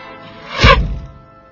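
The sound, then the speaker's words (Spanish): An arrow is shot at an apple and strikes it, splitting it in two, in the public square of Altdorf: a brief rising swish ends in one sharp thwack that rings out and fades over the next second. No voices. “Guillermo Tell, sereno, levantó su arma, apuntó y disparó la flecha.”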